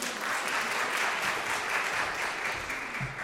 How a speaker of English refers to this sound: So thank you to the volunteers. If we could have some applause.